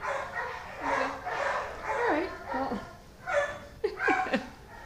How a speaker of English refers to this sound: Always barking going on around yeah, here.